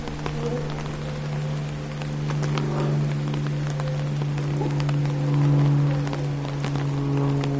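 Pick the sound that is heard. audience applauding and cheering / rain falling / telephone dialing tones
rain falling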